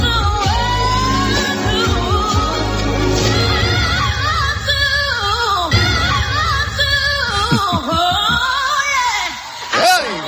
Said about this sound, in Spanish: Tiene una gran voz, domina los temas, pero hay días en que no está para nada. Escucha este pedazo gallo.